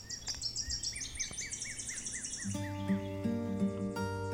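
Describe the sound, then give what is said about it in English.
Birds sing outdoors in a forest on a bluff at Wyalusing State Park, Wisconsin, in quick, repeated high chirps and trills, clear, before a steady sustained musical tone swells in and continues beneath them. “Or you can come here where it's forested and you're up on a bluff and there are birds.”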